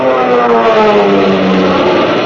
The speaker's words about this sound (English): You can see, too, those kids of the RAF and their planes. Your planes, zooming up to fight for those ships. For your life.